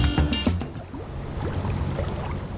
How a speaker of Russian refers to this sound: Рыбаки прыгнули в лодку и оттолкнулись от берега.